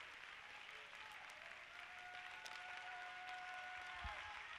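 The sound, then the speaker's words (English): A large standing audience claps their hands together in a dense, steady wash of applause at a revival worship service, with a faint sustained musical tone running underneath. “Everybody stand. Everybody clap your hands.”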